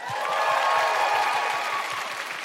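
A crowd applauds steadily, a dense patter of many hands clapping at an even, fairly loud level for a couple of seconds, with some faint cheering mixed in.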